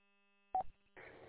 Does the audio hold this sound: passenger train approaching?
no